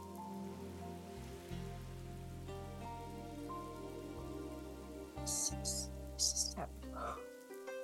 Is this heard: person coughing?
no